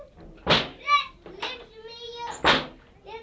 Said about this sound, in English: Don't stop slamming the door so hard.